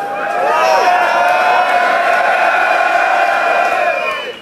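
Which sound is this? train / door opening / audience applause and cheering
audience applause and cheering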